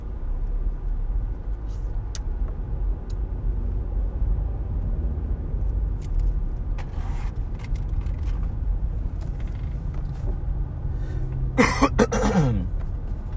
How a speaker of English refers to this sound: You may hear me cough periodically on this podcast. Ever since I was a little kid, I've had chronic bronchitis.